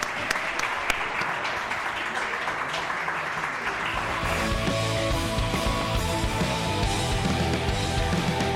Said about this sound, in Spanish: Muchas gracias. Un aplauso. Hasta luego.